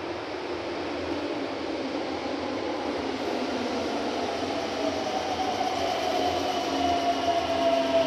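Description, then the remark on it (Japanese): A train bound for Kamiodai, heading toward Fushimi, rolls into a station with a steady, rushing rumble that grows gradually louder, while a thin whining tone rises and then slides downward as it slows at the platform. “伏見方面、神尾台行きが参ります。白線の内側でお待ちください。”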